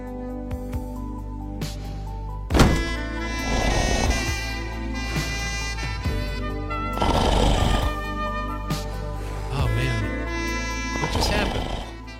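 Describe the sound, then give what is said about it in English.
A person snores in loud, rasping bursts, four or five of them spaced a few seconds apart, with a voice mumbling through them over a steady tonal background. “At that time, I was talking through one of my own snores.”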